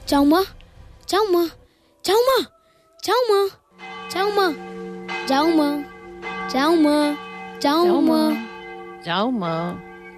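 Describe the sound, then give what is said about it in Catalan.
A voice imitates church bells ringing, with a steady series of sung, bell-like tolls, about nine in all, over a low sustained drone. The tolls are loud. “Vinga, marmota, que ja toquen ses campanes.”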